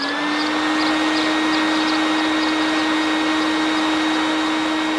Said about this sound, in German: Und jetzt wirft Pitti zur Probe den Motor an.